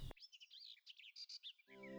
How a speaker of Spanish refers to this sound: Es hermoso escuchar el trino de los pájaros, el concierto de los grillos, el silencio de la noche y ver los rayos del sol por las ventanas cuando despierta el día.